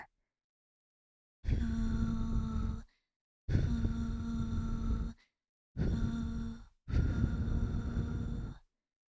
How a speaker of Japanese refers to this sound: 両側から吐息吹きかけられてゾワゾワしちゃうね。